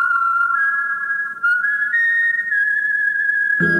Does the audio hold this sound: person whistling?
yes